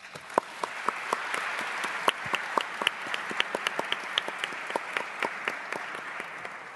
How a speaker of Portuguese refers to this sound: Para estes senhores deputados, peço o vosso aplauso.